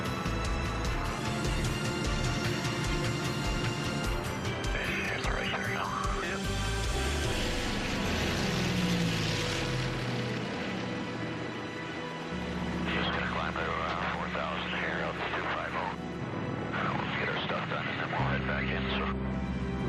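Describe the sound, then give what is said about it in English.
The piston engines of a 215 airplane roar steadily through a takeoff from runway 16 in temperatures below minus 20, a loud, continuous drone with a throbbing tonal hum, while voices talk intermittently over the noise. “To 4,000 feet, did our normal cruise the airplane out, let all the engines stabilize.”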